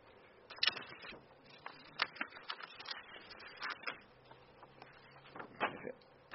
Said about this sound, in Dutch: Papier een beetje ordenen ondertussen.